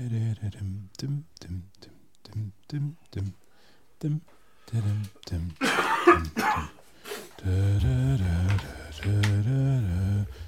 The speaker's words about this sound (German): Wir husten rein.